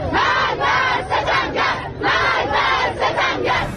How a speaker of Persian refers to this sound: یک هفته پس از ریزش بخش‌هایی از ساختمان متروپول آبادان، معترضان همچنان در خیابان‌ها علیه فساد و سوء مدیریت مقام‌های جمهوری اسلامی شعار می‌دهند.